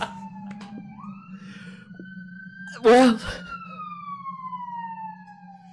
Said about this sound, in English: The sirens sure sound modern in this town.